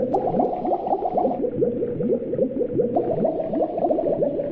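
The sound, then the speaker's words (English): A pot of water poured into a coffee pot bubbling and churning at a rolling boil, a steady stream of overlapping gurgles and pops with no pause and no voices. “It's up to the boiling point.”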